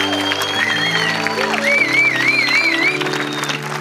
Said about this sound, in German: Lass uns Pastor Bruce noch mal einen Applaus geben.